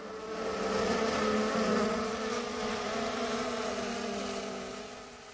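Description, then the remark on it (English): A dense, steady buzz of many honeybees around open hives, a continuous droning hum that swells slightly and holds throughout with no voices, as a beekeeper prepares the bees for winter, pouring a sugary mixture into the hives and releasing queens back into the colonies. “Mr. Uher was preparing the bees for winter, pouring a sugary mixture into the hives and releasing the queens”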